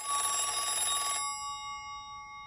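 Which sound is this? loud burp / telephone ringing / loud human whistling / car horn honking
telephone ringing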